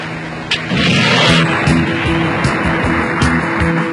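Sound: helicopter approaching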